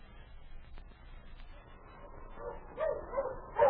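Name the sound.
sled dogs barking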